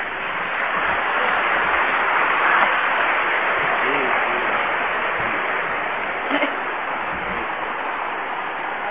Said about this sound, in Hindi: जोर से ताली बजाएंगे।